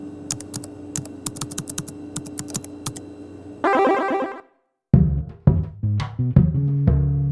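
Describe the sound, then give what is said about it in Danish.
Quick, irregular clacking of keys on a computer terminal keyboard, whose answer comes back as text on a black-and-white screen, over a steady machine hum, followed by a short whirring burst, a pause, and then some chirpy electronic tones. “Og så kunne man sidde på sådan nogle terminaler op i vores øvelseslokaler og skrive på et tastatur, og så komme svaret tilbage på, som tekst på en sort-hvid skærm.”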